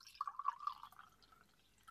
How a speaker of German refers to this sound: Das ist ein kleines Weißweingeräusch in einem grünen Glas. Und die Gläser sind übrigens aus Berlin, wo du mich beim Trainerkongress besucht hast.